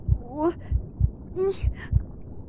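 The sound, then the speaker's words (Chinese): A loud heartbeat thumps in deep lub-dub pairs at a steady pace, while a couple of short, rising vocal squeals break in over it without words. “不行不行，我心跳声好大，救命！”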